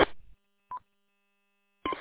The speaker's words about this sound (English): I keep hearing, I think it's your radio. Is your radio making some sort of a beep, or is that the repeater?